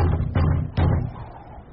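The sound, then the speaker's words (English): Three firm knocks on the wooden door of a neighbours' timber cabin with a tar paper roof in the snow at Christmas, evenly spaced and hollow-sounding, each thud leaving a brief low resonance before fading into quiet. No one speaks. “I can't see anyone. I'll knock.”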